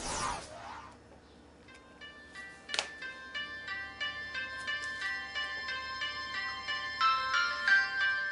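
A telephone rings with a bright, tinkly melodic ringtone, its chiming notes repeating steadily for several seconds after a brief burst of noise at the start, with no one speaking.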